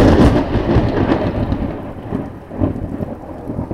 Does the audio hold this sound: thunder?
yes